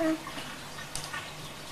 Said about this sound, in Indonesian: Ini kan ada blebek-blebeknya. Ada apanya? Blebeknya ini. Gelembung udaranya.